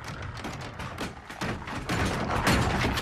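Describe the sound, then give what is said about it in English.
Two intruders pound heavily on a door: a rapid series of dull, booming thuds that keep coming without pause and grow louder and more forceful toward the end. “Suddenly, the door opposite takes a pounding, and Spoon has 2 intruders to contend with.”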